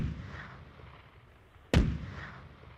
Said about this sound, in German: 101 Kanonenschüsse feierten am Montag, den 25. August 1845 in München, die Geburt des bayerischen Thronfolgers, des späteren Ludwig II.